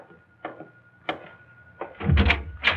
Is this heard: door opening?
yes